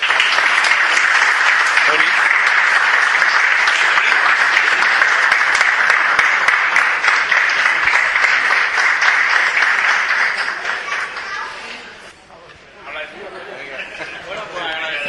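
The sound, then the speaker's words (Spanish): Sustained applause from a sizable crowd in a hall for the artisans who made the shields displayed there, dense and steady for about ten seconds before thinning out and briefly picking up again near the end. “porque han realizado esos magníficos escudos que presiden esta sala, así que un fuerte aplauso para ellos.”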